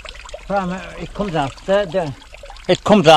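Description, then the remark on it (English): Water from a mountain stream, coming off the eastern side of a high cliff, pours steadily into a bucket at a house with no running water, a continuous splashing hiss running beneath a man's voice as he talks over it throughout. “It comes off the eastern side of the high cliff there up, and she's coming all along, down away, down into this bucket,”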